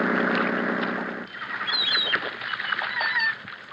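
Seagulls, overstuffed and the size of vultures, on Belmar's Island call in a busy scatter of short, shrill cries, some rising and squealing, after a low droning hum that stops about a second in. No one speaks.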